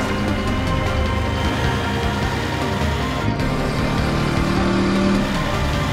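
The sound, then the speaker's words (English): A car engine drones loudly and steadily throughout, a continuous rumble with a slight shift in pitch partway through, as the car moves at low speed down an alley past a row of old cars, following a scooter. No voices. “The scooter turns down an alley past a row of old cars, and Bradley follows close behind.”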